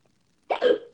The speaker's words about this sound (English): I got hiccups after. There it is.